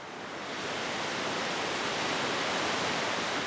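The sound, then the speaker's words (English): A steady, dense roar of excess spring meltwater rushing through a bypass channel on the side of Bellows Falls Dam, a hydroelectric dam, swelling slightly in the first half-second and then holding constant and loud, like a torrent pouring through a narrow channel. “shows me how excess spring meltwater is rushing through a channel on the side of the dam called a bypass.”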